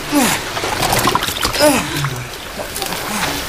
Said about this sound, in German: Fangt die Leine und zieht das Boot etwas auf den Strand, ja?